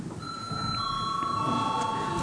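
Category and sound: signal or alarm, parliamentary voting bell ringing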